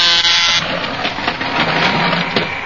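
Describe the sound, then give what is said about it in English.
A loud, harsh electric door buzzer, pressed to let someone into Dr. Joan Dale's laboratory, sounds for about half a second, then gives way to a steady rattling, mechanical whir that continues to the end. No one speaks. “Here, I'll press the buzzer so you can go into her laboratory.”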